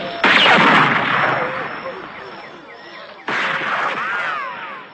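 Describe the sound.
Rifle fire in a battle between Indians and ape-men on the edge of a plateau: two sudden, loud gunshot bursts about three seconds apart, each trailing off into a long rough roar, with shouting voices mixed into the din.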